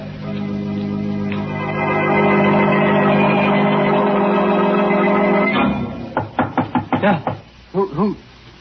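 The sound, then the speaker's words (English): A sustained, droning musical swell fades out, then a quick series of firm, echoing knocks on an alley door rings out in uneven bursts, loud; someone is at the door. “That's the alley door. Somebody's there.”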